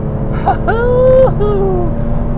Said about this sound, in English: 4,600 RPM into 6th gear, 100 miles an hour.